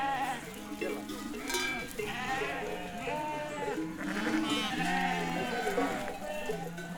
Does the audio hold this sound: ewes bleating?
yes